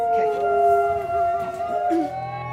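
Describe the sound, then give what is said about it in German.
Wolves howling together, several long, overlapping tones that hold steady and slowly bend in pitch, fairly loud and continuous throughout the short stretch. “Wie schade wäre es gewesen, wenn ich dieses einzigartige Hörerlebnis nicht für die Ewigkeit aufgenommen hätte. Und wer weiß, eine Wolfsbegegnung ist ja in Zukunft nicht ausgeschlossen.”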